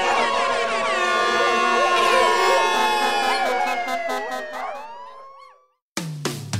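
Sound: air horn blasts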